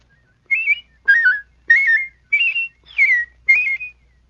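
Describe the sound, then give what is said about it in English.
A person whistles six short, warbling la-la phrases at shifting pitches, evenly spaced with brief pauses, imitating a robin's song. The whistling is clear with no talking. “By producing your la-la whistle at different pitches, you can imitate a robin.”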